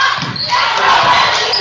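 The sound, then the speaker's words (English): A basketball is dribbled quickly between the legs by the Cadets' point guard in a Cadets–Lancers game, the low thumps of the bounces partly buried under a loud, steady roar of arena crowd noise. “Hill between the legs.”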